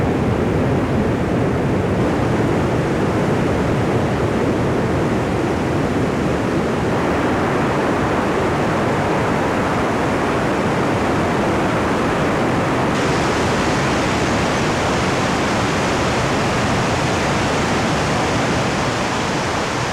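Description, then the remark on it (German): A loud, steady rush of spring water gushing out of holes in rock after long rain, a dense unbroken roar that holds constant throughout with no voices present. “Die Quellen kommen von Rosa runter und wenn innen sozusagen das Wasser übergeht, ja, wenn es eben so lang regnet, dann kommt es bei diversen Löchern raus und das sind dann die Lierger.”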